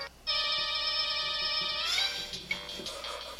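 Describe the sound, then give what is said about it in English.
A song plays as a phone ringtone: a loud, bright electronic melody holding a sustained buzzy note before sliding up and breaking into softer, choppier tones toward the end, with no one talking. “You can't get enough of that song. Yeah, I really can. It was Jamie's ringtone for a while”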